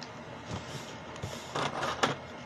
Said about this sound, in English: You reach a giant gate, like portal. Two giant stone/bone golems start opening the doors.